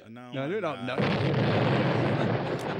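A brief wavering, voice-like tone gives way to a big explosion: a loud, harsh roaring blast that stays full and sustained for about two seconds without fading.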